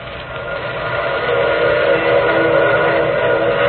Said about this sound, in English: Wasn't that a train whistle?